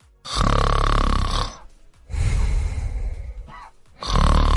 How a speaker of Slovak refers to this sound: Jednoducho chrápanie